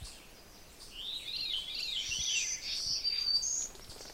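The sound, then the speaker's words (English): Wild birds singing in a yard in the woods with berry bushes, a continuous tangle of high chirps and trilling phrases from several birds, mostly veeries with an ovenbird a little farther away, with no talking over it. “You can certainly hear other birds around me.”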